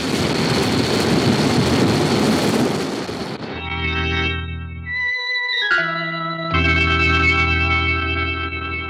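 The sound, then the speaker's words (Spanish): A loud, roaring explosion of a bomb in a robot, set off by a large stone thrown onto it, shakes a forest and a pagoda, rumbling and hissing for about three seconds, then abruptly gives way to sustained, droning electronic tones that shift pitch a few times. “Una explosión sacude el bosque y la pagoda.”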